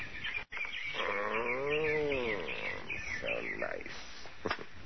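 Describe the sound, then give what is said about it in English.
At twilight as the sun goes down, birds chirp in quick, repeated high notes throughout, steady, while a lower, drawn-out wavering call rises and falls partway through. “Wonder what kind of birds those are.”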